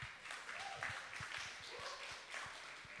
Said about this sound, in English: So if you want to run up here, come and stand by my side. Clap for them.